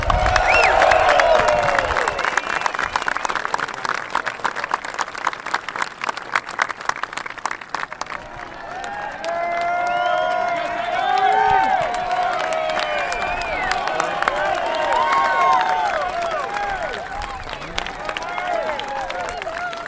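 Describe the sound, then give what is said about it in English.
A large outdoor golf crowd at the first tee bursts into sustained applause and cheering as a golfer is announced to drive, dense clapping for several seconds that gives way to excited murmuring and scattered shouts, then swells again with more clapping. “the crowd reaction was one of appreciation and anticipation for what the day might hold”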